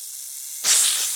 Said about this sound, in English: Where's the snake? It's over there.